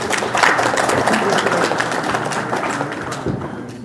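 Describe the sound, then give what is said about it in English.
A big band concert audience applauds steadily for the sponsors and an organizer, dense overlapping claps forming a loud, sustained wash of noise that tapers slightly toward the end. “And again, a great round of applause for Dorothy Love and for bringing us here tonight.”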